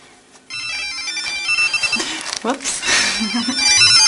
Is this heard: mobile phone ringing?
yes